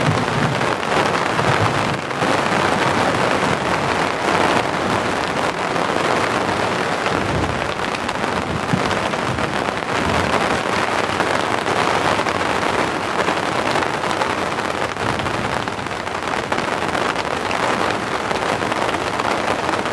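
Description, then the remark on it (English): Heavy rain pours down in a steady, dense hiss that fills the whole scene, loud, with no voices and hardly any variation across the stretch. “The rain has come back with a vengeance.”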